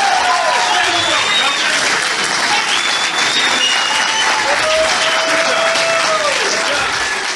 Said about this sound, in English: I left that applause in there on purpose. Joe was probably wondering, because usually we edit it out in the interest. Nah, I left it in there, but you all needed to hear that. There's more of it. I just, right? There's like another 10 seconds of it.